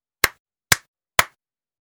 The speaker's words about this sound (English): I know. We can clap.